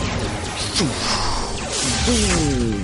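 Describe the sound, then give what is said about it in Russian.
A loud, sustained crash and explosion with dense rumbling noise, sweeping tones sliding through it, and what sound like shouting voices mixed into the chaos, as the Omnidroid robot, hit by a rocket, falls and explodes. “Омнидроид упал и взорвался.”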